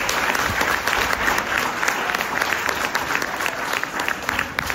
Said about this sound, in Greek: Κατά συνέπεια, αξίζει στο Υπουργείο Παιδείας ένα θερμό χειροκρότημα, διότι σκέφτεται το σχολείο.